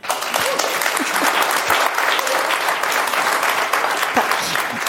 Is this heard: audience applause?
yes